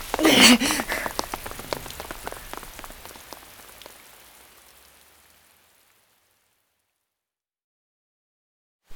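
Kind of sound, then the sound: nature, heavy rain pouring down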